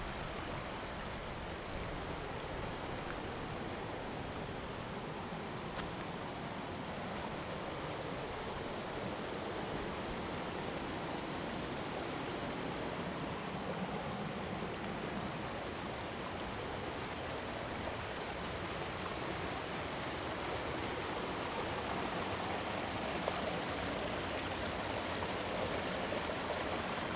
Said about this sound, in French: La cascade, les galets